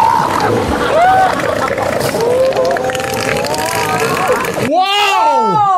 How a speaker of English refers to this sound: Gray seals. They want to go right back. Doesn't it sound like they just downed a beer?